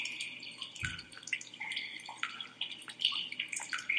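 water dripping

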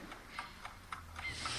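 clock ticking

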